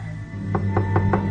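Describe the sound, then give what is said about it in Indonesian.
Four quick, evenly spaced knocks on a toilet stall door, fairly loud, over a steady low hum in the background. “Aku pun mengetuknya.”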